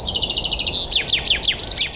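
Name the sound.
common chaffinch song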